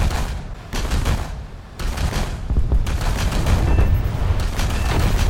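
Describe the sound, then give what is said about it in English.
Loud, heavy 37mm cannon fire from a MiG-9 aircraft booms in rapid bursts, dense and continuous apart from a brief lull early on, with no voices over the shots. “MiG-9 with 23 and 37mm cannons. To 23mm. Only the 37mm.”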